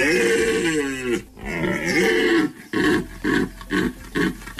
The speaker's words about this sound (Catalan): És amb l'escenari de fons, aquest que representa els brams, els sons que emeten els mascles, doncs és una combinació molt atractiva i fa que sigui un espectacle natural únic.